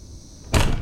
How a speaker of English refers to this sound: The back door opens and I hear boots stomping towards the living room.